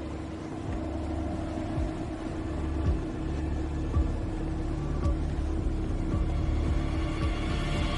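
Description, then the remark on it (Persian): A boat engine drones steadily as it arrives, a low, rumbling hum with a tonal buzz that swells slightly louder over the few seconds, with no voices. “آماده شو، قایق اومد.”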